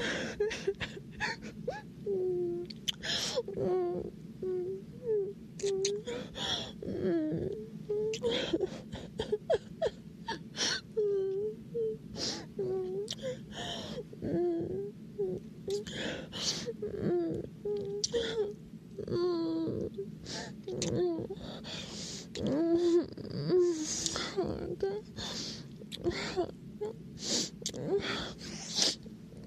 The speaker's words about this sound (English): Sorry, it was sniffles.